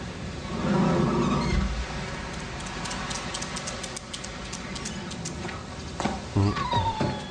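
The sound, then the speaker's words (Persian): A small, wet dog growls angrily, a low rumbling snarl, followed by a few brief higher yelps near the end over a steady background hiss. “آخ ای هاپو کوچولو، خیس شدی؟”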